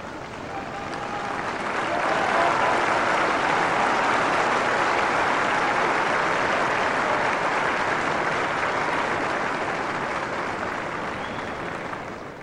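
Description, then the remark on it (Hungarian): Sustained applause from a large crowd at the papal audience in St. Peter's Square, Vatican, marking its end on a feast day: a dense wash of clapping that swells in over the first two seconds, holds steady and loud, then eases slightly at the end, with no talking. “Kedves hallgatóink, ezzel a tapssal ér véget a mai napon, szép ünnepnapon, a pápai audiencia a vatikáni Szent Péter téren.”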